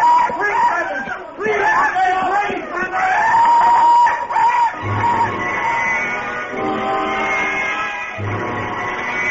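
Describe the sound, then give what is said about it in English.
A peacock attacking a man calls loudly, with harsh, high wailing screams repeated over several seconds amid a busy, clamorous background of shouting or commotion. “So that's a peacock, huh? Are they always like that? Mean, loud?”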